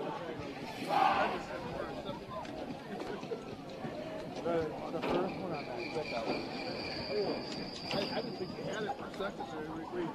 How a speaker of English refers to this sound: as we're walking amidst the crowd trying to get out there and enjoy the celebration. It's kind of a slow line out of here